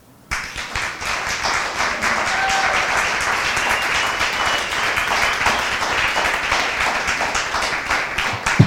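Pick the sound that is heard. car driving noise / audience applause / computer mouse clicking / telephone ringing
audience applause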